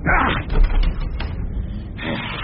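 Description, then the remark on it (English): The unlocked, badly boarded-up old door of an abandoned theatre is shoved open with a grinding, creaking scrape, a few sharp wooden knocks in the middle, and a rough rasping burst at the start and end over low rumble. “The door's not locked. Just badly boarded up.”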